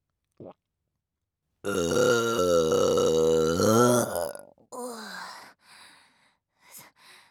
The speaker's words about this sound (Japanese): 早速出てきましたね。タイムラグなしにザーメンゲップ出るなんて、早速胃薬の消化機能が働いているのでしょうか。